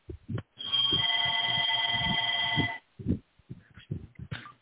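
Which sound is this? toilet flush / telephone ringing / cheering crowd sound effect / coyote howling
telephone ringing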